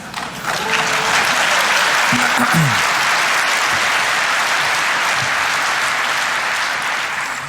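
A burst of applause from a crowd, dense steady clapping at a loud level that holds evenly for several seconds before easing slightly at the end, with faint voices briefly showing through.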